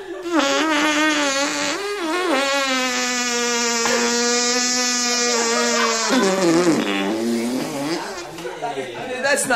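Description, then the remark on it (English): A voice imitates a fart with a long, buzzy, wavering tone that holds steady for several seconds, then drops lower and sputters out in rougher bursts. “Eyes without a face, fart without a butt.”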